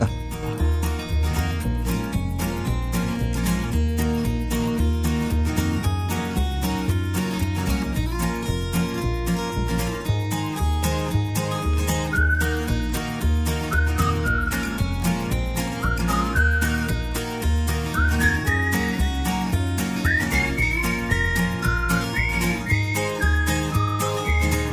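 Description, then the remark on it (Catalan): An instrumental music intro plays loud and continuous, with a steady driving beat, full band backing and a high whistle-like melody that slides upward in short phrases. No one speaks. “us posem una música … …”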